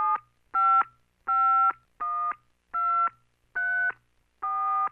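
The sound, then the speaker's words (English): A phone number being punched in on a touch-tone keypad to make a random phone call: seven clear, evenly spaced dual-tone beeps, each about a third of a second, loud with silence between them. “I will reintroduce the element of spontaneity by making a series of random phone calls, beginning now.”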